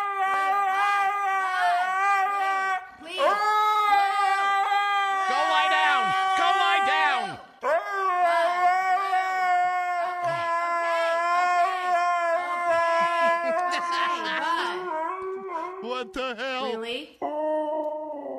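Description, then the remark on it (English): A large dog named Blue, left alone in the house, whines and howls in long, wavering, high-pitched cries that rise and fall almost continuously, fairly loud, with only brief pauses between drawn-out vocalizations. “Shouldn't leave a big dog in the house like that alone.”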